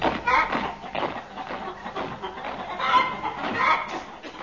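A chicken clucks in quick, busy bursts throughout, moderately loud, with a few sharper squawks mixed in.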